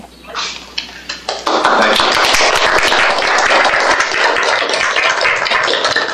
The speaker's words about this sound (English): Well, certainly the applause seems to be a real indication of discussion